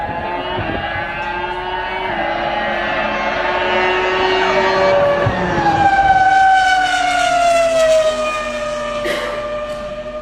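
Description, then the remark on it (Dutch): An old Renault Formula 1 car from around 2005-2006 screams at high revs on the Paul Ricard circuit during a track day, its pitch climbing and dropping through quick gear changes as it passes by, loud and continuous with no talking. “Misschien niet het meest spannende circuit ter wereld, maar daar hadden ze een soort track day met allerlei bijzondere Formule 1-auto's. En nu hebben ze een oude Renault opgetrommeld.”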